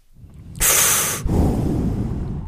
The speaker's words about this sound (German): Dich höre ich verdammt gut schnaufen.